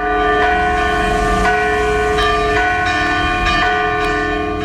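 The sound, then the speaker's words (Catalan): The bells of ten church bell towers in Banyoles ring together at the same hour in the evening in a dense, continuous peal, overlapping strikes and long ringing tones blending into a loud, sustained wash of sound with no voices, on the eve of the town's main festival. “D'aquesta manera, els 10 campanars de Banyoles van fer repicar les campanes a la mateixa hora, ahir al vespre, per primera vegada.”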